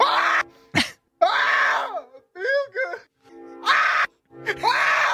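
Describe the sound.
A man lets out a series of loud, strained falsetto screams in the style of a soul singer, each wail rising and falling, with a warbling, yelping run in the middle.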